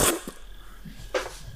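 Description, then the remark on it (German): A voice imitates the slurping sound heard when a thrown hazelnut lands on a hole and touches the undergrowth there: two short, breathy, hissing bursts, one at the start and another a second later, separated by a quiet stretch with faint murmurs. “Okay, du wirfst relativ weit und hörst dann, als die Haselnuss auf dieses Loch auftrifft und dieses Gestrüpp dort berührt, hörst du plötzlich so ein Schlürfen, so.”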